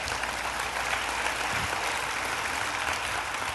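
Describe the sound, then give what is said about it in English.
Steady applause from a church audience, a dense, even wash of clapping that holds at a constant level for several seconds without any voices. “Go ahead and applaud for that because it's true.”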